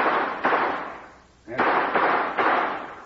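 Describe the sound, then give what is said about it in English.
A few gunshots fired into the air as a rescue signal in strong wind ring out in an uneven series, each a sharp crack followed by a long, rolling echo that fades before the next, with a pause midway through. “He might hear gunshots and recognize the signals. I'll try a few shots into the air.”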